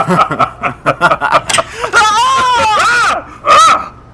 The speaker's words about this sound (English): Who was that screaming on my doorstep?